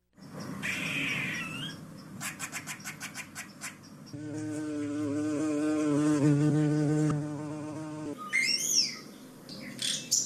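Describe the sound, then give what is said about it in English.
A springtime backyard wildlife chorus in the Atlanta metro area: high chirps and a rapid clicking trill, then a steady, harmonically rich buzzing drone for several seconds, ending with bright, swooping whistled calls. No one speaks. “That means if you live in the metro area, your yard may be sounding something like this, with spring nearly sprung.”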